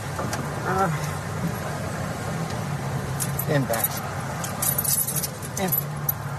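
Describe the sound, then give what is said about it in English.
Keys jangle in scattered bursts as a woman gets a dog into a car, over a steady low vehicle rumble, with occasional short whines and muffled voices. “She's getting a dog in the car there.”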